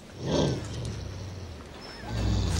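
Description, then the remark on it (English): A cat, Zowie, bristles in a kennel cage, growling low and menacingly, with a rumbling snarl at the start and another swelling near the end, fairly loud, no voices. “Zowie bristles in his cage.”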